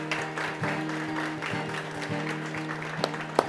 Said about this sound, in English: And so today, before we begin, we just want to take a moment and honor fathers. So fathers, want to just give a round of applause for all the dads, appreciation.